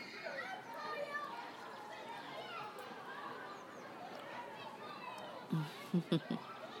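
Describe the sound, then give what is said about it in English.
Children playing in a schoolyard on a chilly day: a steady, fairly quiet wash of overlapping young voices and chatter, with a few sharper voiced shouts or laughs breaking out near the end. “It's nice to hear them, really.”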